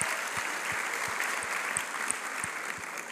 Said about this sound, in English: Let's give our kids' church workers a round of applause.